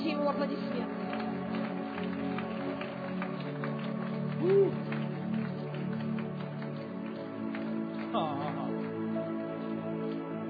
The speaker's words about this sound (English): Ooh, come on, give Jesus a hand clap.